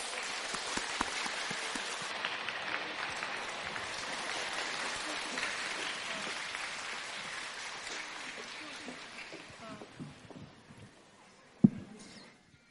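Warm applause from an audience welcoming Master Lu (卢台长) to read totems: dense, steady clapping that holds strongly for about ten seconds, then thins out and fades, ending with a single dull thump.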